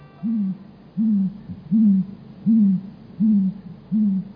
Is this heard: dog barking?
no